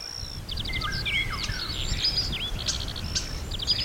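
Starlings sing outside the window, a busy, varied medley of whistles, clicks and rattling trills, continuous, over a low steady background rumble, with no one talking.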